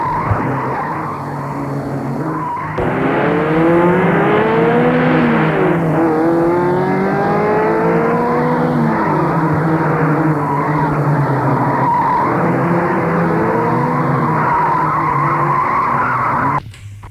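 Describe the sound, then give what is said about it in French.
A car speeds through the streets of Paris, its engine revving loudly and rising and falling in pitch while tires squeal through turns, a continuous, frantic sound with no voices. “Alors, elle a pris sa voiture et roulé dans Paris et file et file.”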